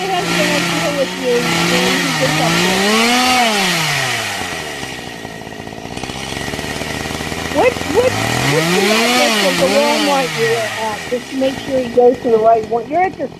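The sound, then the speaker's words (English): A chainsaw revs up and down in two long, loud surges, its whining pitch climbing and falling, then sputters in short choppy bursts near the end, used to cut items up at a Walmart service desk. “It's a chainsaw, idiot.”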